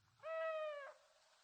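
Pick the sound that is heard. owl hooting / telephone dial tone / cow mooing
owl hooting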